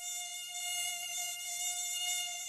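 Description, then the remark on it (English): A steady, high-pitched whine of a swarm of mosquitoes on a hot summer night, a thin droning hum that holds without pause, even in loudness, with no voices present. “When summer came and the street heated up like a kiln, it bred lethal swarms of mosquitoes.”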